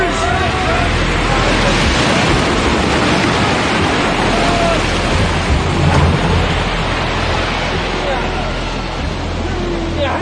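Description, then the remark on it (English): A loud, continuous roar of a storm at sea, with dense rushing wind and crashing surf filling the scene, holding steady before easing in the final seconds as the storm dies down quickly. “I've never seen a storm die so fast.”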